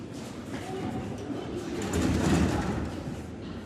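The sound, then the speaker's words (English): A dense, steady ambience of an underground metro station where many people are hiding and sheltering, with low rumbling, an echoing murmur of voices and faint metallic tones, swelling slightly louder midway through. “Underground metro stations is where many people hide.”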